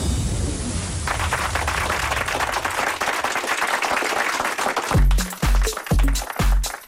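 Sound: clapping hands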